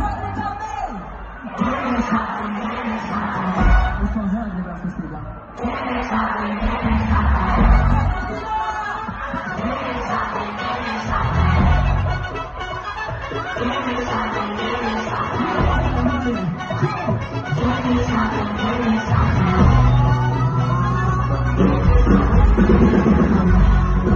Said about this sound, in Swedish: Och så här lät det när han då gjorde allsång med publiken på en låt som de aldrig har hört.